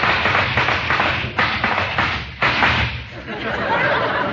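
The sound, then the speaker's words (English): Horses' hoofbeats approach, clattering in a steady, rhythmic stream of dull thuds and taps, fairly loud over a dense, noisy wash that continues for the whole stretch, as a rider arrives to call. “Do I hear the sound of horses' hoofs?”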